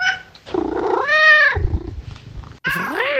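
A house cat, a tomcat named Action, meows loudly, two drawn-out, rising-and-falling calls with a short gap and some low rumbling between them, no talking.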